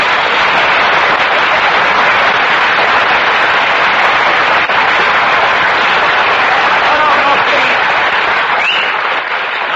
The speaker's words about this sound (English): No applause, no applause. The listeners will think we have a studio audience.